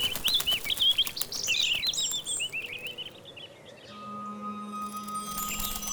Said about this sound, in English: Careful, birds.